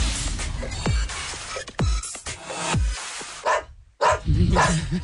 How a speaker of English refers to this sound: You guys hear the dog barking in the background?